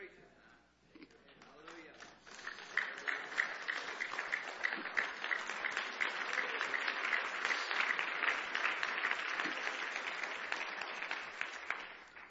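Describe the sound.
A crowd claps, starting with a few scattered hands and building within a couple of seconds into loud, sustained applause that holds steady, with some voices mixed in underneath.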